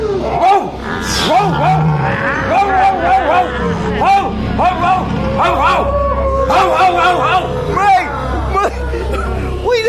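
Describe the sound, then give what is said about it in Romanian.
A dog barks repeatedly at a pack of howling wolves in a dense, continuous tumble of barks, growls and howling wolf cries that overlap closely, loud, with a faint murmur of voices underneath. “Fratele câine nu știu ce le-a lătrat pe limba lor și s-au dus.”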